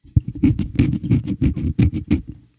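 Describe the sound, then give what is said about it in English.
A quick run of about eight or nine rough brushing scuffs, a foot scuffing crumbs into indoor-outdoor carpet, fairly loud with a steady, rhythmic pace. “You know, you can come up to this kind of indoor-outdoor carpet and you just take your foot and you go like, you go.”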